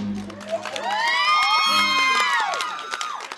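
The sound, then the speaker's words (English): An audience cheers loudly at the end of a movie screening, with high-pitched whoops and shouts rising and falling over a steady roar of voices, like a class of excited kids, sustained throughout. “But they cheer like a class of eighth graders at the end.”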